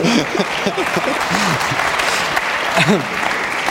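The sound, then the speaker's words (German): An audience claps steadily for a few seconds during the introduction of publishing executive Matthias Döpfner, a dense, even patter of many hands, while a few voices talk and call out over the applause. “Jetzt klatscht mir keiner.”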